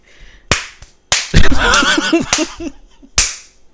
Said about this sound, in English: He was like, why are you slapping?